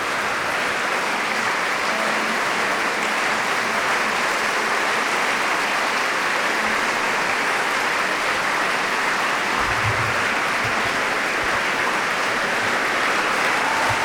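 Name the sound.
concert audience applauding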